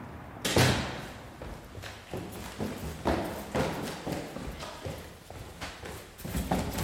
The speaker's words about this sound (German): Es ist Sonntag, früh am Morgen. Ich werfe eine Jacke über, schließe die Tür hinter mir, die Treppen hinunter.